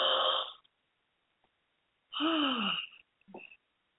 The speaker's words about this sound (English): Okay, follow that up with a deep breathing. Ready? We're going to take in a big gulp of air.